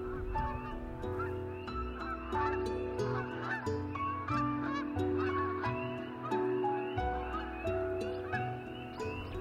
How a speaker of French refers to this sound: Je suis certain que les hommes préhistoriques, quand ils passaient des oies comme ça, ils levaient aussi les yeux au ciel. Ça, c'est des moments toujours magiques.